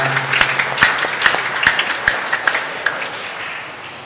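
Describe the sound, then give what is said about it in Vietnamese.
A church audience applauds to thank the ministers for their devoted service over the past year, in a dense, steady patter, with sharp unison claps landing about twice a second before the applause gradually thins out. “Chúng ta cảm ơn các thượng đốc viên một tràng vỗ tay đã phục vụ tận tình trong năm vừa qua.”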